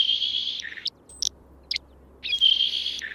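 A saltmarsh sparrow gives a thin, buzzy, hissing song high in pitch, with two long wheezy phrases bracketing a few short sharp notes and a brief pause, heard alone.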